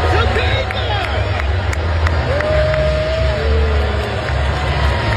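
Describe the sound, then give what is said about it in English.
A large arena crowd at WWE's Money in the Bank event at the Intuit Dome in Inglewood on Saturday night, booing Courtney and Travis as the camera pans to them. A dense roar fills the whole stretch, with a few drawn-out vocal tones rising above the steady din and indistinct chatter mixed in. “There was better audio, but I read that they got booed, which I think is what you would expect.”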